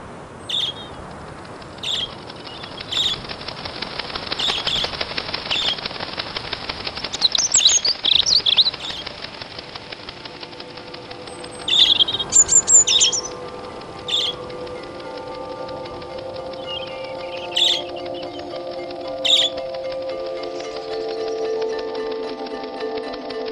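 Small urban birds chirp and tweet in short, scattered bursts, with a couple of busier fluttering moments like flapping wings, over a steady low background hum. No one speaks.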